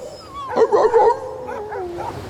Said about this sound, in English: As Hugh Howard's private airliner disappeared into the Arctic blue, Dr. Weems hastily hitched up his dog team.